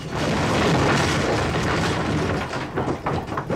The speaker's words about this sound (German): Es dauert nicht lange und das gesamte Gebäude steht in Flammen. Alles brennt. Publikumsraum, Bühne, Dach, einfach alles. Und dann gibt es einen furchtbaren Krach. Und der brennende Dachstuhl bricht in sich zusammen.